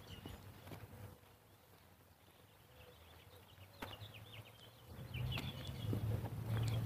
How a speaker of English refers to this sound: That was a robin.